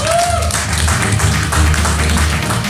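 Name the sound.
audience applause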